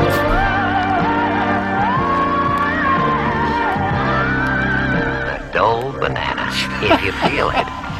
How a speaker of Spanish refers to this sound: Un anuncio de bananas que dice Can you feel it? Y con los gritos de con este tema, con estos gritos de fondo.